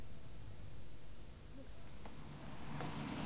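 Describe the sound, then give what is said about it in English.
Steady rain falls in a continuous, even hiss with no pauses, filling the scene at moderate loudness, with a few faint higher taps and rustles near the end. “I'm jogging in the rain.”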